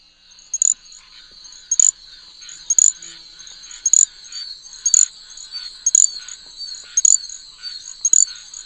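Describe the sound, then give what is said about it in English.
A little grass frog, a tiny frog of the southeast with the highest-pitched song of all the frogs there, calls in a rapid series of very high, thin, insect-like chirps, repeating roughly once a second over a steady shrill buzz, with no talking. “That's a tiny little frog of the southeast that has the highest pitch song of all our frogs.”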